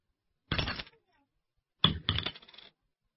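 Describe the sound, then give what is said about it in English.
Two coins drop into a ticket machine slot at a railway station in two clinking bursts: one short clatter, a pause of about a second, then a longer double rattle as they fall inside. “We must put 2 coins in the slot.”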